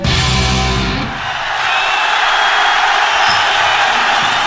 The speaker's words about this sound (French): Écoute, écoute les cris de la foule, écoute comment ils sont heureux.